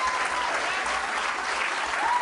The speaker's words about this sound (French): Vous applaudissez. Vous applaudissez trop longtemps, là.